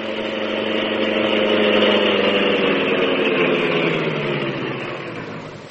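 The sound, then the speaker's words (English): The Green Hornet's sleek black car idles steadily with a low, even rumble and hum as it is guided to the court outside Conway's study, swelling slightly and then easing off near the end. No voices are heard. “With this as his plan, he guided the sleek black beauty to the court outside Conway's study.”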